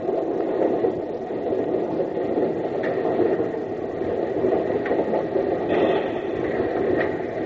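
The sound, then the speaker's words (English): A steam train rumbles steadily along the rails with a dense, continuous roar, broken by occasional metallic squeals and clanks every second or two. No one speaks. “Now to stop the train.”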